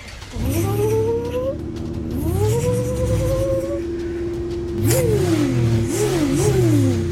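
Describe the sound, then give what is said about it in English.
A truck engine strains and revs while pulling a heavy load attached with ropes, its droning whine climbing and dipping in pitch over several seconds, loud, with no voices. “It's a lot of weight, but the time truck is doing it.”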